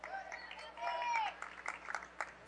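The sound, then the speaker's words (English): Scattered applause from Cardinal fans at a basketball game, applauding a player's hustle at the other end of the court; quiet, with sharp claps growing more distinct toward the end, mixed with shoe squeaks and background voices. “And you can hear the Cardinal fans applauding the hustle at the other end.”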